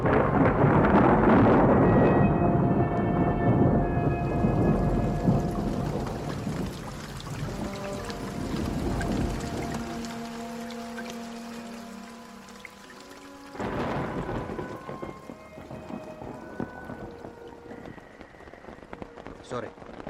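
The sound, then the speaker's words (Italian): A heavy downpour hisses steadily throughout, with a deep rolling rumble of thunder at the start that fades, while some tonal sounds drift over the rain. “Abbiamo già fatto l'esercitazione del mattino nonostante l'acquazzone.”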